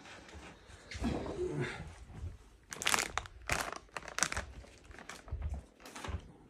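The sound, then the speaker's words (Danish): Paper rustles and crinkles in a series of sharp, bright bursts, some louder than others, as sheets are pulled and crumpled by hand with no one speaking. “Jeg skal lige have noget papir.”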